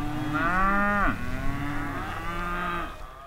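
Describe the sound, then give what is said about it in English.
Cattle moo loudly, two long drawn-out calls in quick succession, the first dipping in pitch at its end, with no voices present; cattle grazing in the agricultural valley of the Little Snake River on the Wyoming-Colorado border. “Goats, sheep, and cattle graze next to schools and churches.”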